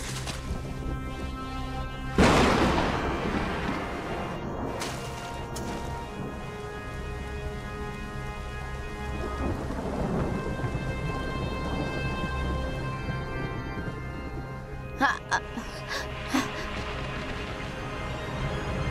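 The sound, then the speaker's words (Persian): A thunderstorm with heavy rain pouring steadily throughout. A loud thunderclap cracks early on, then deeper thunder rolls and rumbles, with a few short sharp crackles near the end. “بعد از چند ساعت نیکولا نگران شد و به دل طوفان زد تا پیداش کنه.”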